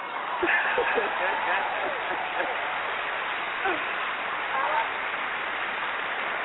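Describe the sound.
An audience claps steadily for several seconds after a poem is performed, a dense, even crackle of many hands that neither builds nor fades, with faint voices mixed in underneath.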